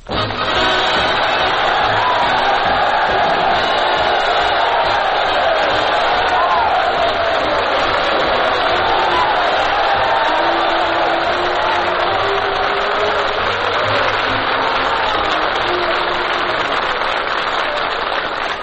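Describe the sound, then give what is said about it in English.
Loud, sustained applause from a large studio audience at a Bob Hope radio broadcast in San Luis Obispo, California, a dense crackling roar that holds steady for nearly twenty seconds, with cheers and whoops rising through it and no speech. “That's 98 on the applause meter.”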